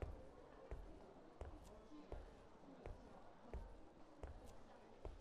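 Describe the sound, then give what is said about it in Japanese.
Steady footsteps of a person taking a stroll on a warm spring day walk at an even, unhurried pace, each step a soft thud with a crisp scuff, about one every seventy hundredths of a second, over a low background hum. “足音を聞いていると、とてもリラックスした気持ちになってきます。”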